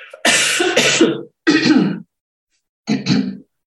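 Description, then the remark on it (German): Three harsh, rough coughs, the first one longest and strongest, followed by two shorter bursts separated by brief pauses. No talking accompanies them. “Achtung, Husten”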